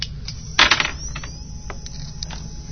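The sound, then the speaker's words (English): A quick clatter of fairly big dice tumbling across a hard tabletop, a loud burst of rattling followed by a few scattered clicks as they settle, with no talking. “Roll some fairly big dice.”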